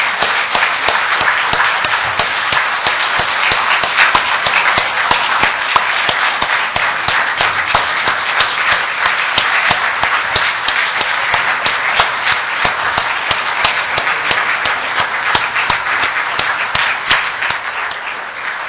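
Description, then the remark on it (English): A church audience claps its hands steadily for nearly twenty seconds, a dense, sustained wash of many hands with no voices over it, easing off slightly at the very end. “But first of all, I think we don't clap our hands very much in church, but I think right now would be a time to do it.”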